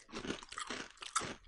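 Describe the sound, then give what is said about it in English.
Crisp crunching as someone bites and chews crunchy, spiced Havoc chips, a quick run of brittle snaps and grinding bites over about a second and a half, with no talking. “Very crunchy. But good. I like crunchy.”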